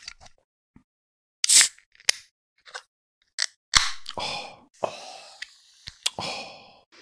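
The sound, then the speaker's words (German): A drink can is cracked open with a sharp click and a burst of fizzing hiss, surrounded by several smaller clicks and brief rustles, with no talking. “Muss genau, lass es doch mal zischen.”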